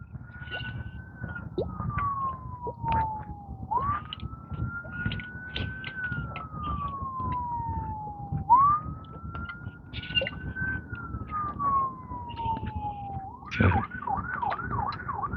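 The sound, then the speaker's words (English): An emergency vehicle siren, from an ambulance or fire department vehicle with bright blinking lights, wails in long, slow rising-and-falling sweeps over a low traffic rumble in the morning, then abruptly switches to a quick warbling yelp near the end. It sounds prominent. “Ambulance or fire department?”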